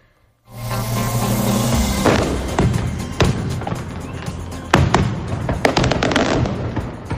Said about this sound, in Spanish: un castillo de fuegos artificiales con 1.496 kilos de pólvora y casi 20 minutos de duración puso el colofón ayer tras las carrozas a las fiestas mayores patronales de Benidorm.